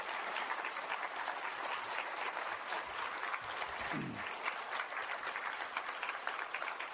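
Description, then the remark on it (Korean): A church audience at a revival meeting claps steadily and warmly to welcome a pastor coming forward to preach, a dense, even wash of many hands that holds at full strength for the whole stretch, with a brief low voice surfacing midway. “여러분 할렐루야도 좋지만 우리 뜨겁게 나오실 때까지 박수로 환영했으면 좋겠습니다.”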